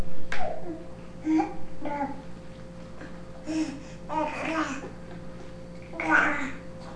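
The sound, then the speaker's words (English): A baby boy, trying to pull himself out of a chair, makes a series of short, rough guttural vocalizations and growly grunts, with brief pauses between bursts and one louder, strained squeal-like sound near the end. “Kind of a guttural little sound there.”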